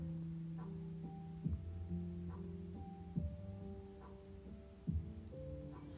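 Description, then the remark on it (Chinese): A slow, muffled heartbeat is heard by lying on a person's chest over the heart: three deep, low thumps spaced well apart, beneath a steady soft hum of sustained tones. No one speaks. “我要放在你的胸前，你的心脏的地方，然后趴在上面听你的心跳。”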